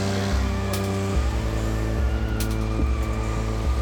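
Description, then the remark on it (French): A car engine is started by the driver at the wheel and rumbles loudly, its low drone stepping up and down in pitch several times as it revs, with no voices present. “Il s'installa derrière le volant de sa voiture et mit le moteur en marche.”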